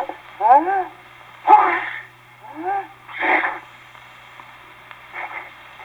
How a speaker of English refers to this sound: Following type 1, the feline or pussycat sneeze, which you have just heard, we have type 1A, the atomizer or seltzer siphon variety.